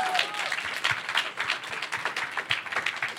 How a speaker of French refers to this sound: Applaudissements pour Meredith Grey.